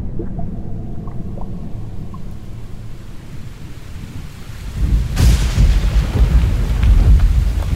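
A thunderstorm with a steady low rumble of rolling thunder and rain, then a sudden loud thunderclap about two-thirds through that swells into a heavier downpour.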